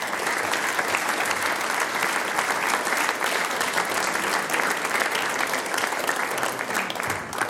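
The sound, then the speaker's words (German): Sustained applause from an audience at a singers' and musicians' gathering (Sänger- und Musikantentreffen) in Bingau as the mayor is called onto the stage, a dense, steady wash of many hands clapping at once, loud and continuous for several seconds with no voices standing out. “Bitte auf die Bühne Bürgermeister Sebastian Wolf und Karl Wappel Senior. Mit Applaus geht es natürlich am besten.”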